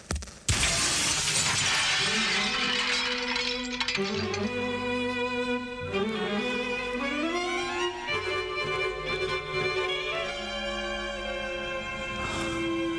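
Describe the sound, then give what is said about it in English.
A loud, sudden crash of a man's body breaking through the double glass doors of an alley exit right at the start, with broken glass spilling briefly, then dramatic music with sustained tones takes over and plays on for the rest. “He inches closer to the alley exit of the double glass doors. He turns his body sideways. He hunches his shoulders and”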